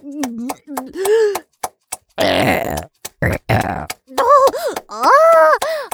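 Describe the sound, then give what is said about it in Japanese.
Two long, loud, wet burps rumble in the middle, bracketed by a person's strained vocal grunts and moans before and after. “で、水をたまじらせたビジグソゲップ、勇者様に届け。”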